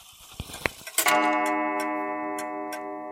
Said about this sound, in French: 6h30 sonne à la pendule.